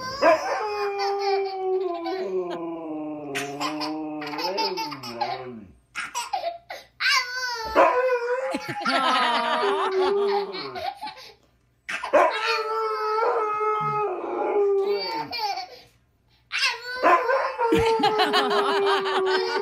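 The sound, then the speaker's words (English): A husky dog howls in long, wavering tones while a toddler howls along and giggles, the two voices trading and overlapping in several loud bursts. “This has been a toddler and a husky having a howl off for no apparent reason at all.”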